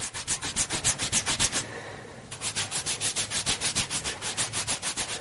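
Quick, steady back-and-forth rubbing strokes, a brisk swishing rhythm that pauses briefly partway through and then resumes, as a woman in Johannesburg cleans her arms with a gel-soaked cotton wipe made from a water-activated dry-bath tablet. No one speaks.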